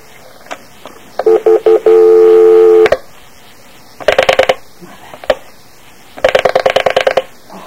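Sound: telephone being dialed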